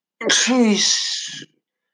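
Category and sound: human body sound, sneeze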